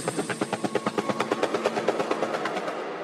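A helicopter rotor sound effect: a fast, steady chopping pulse of whooshing beats, fairly loud, running continuously on its own with no voices.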